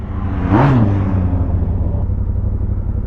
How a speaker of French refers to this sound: Voiture pilote.